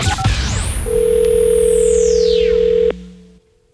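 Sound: telephone dial tone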